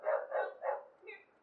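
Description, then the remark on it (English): A dog barks three times in quick succession, loud, followed by a softer, higher yip as the barking trails off. “That's why Chico's been crazy.”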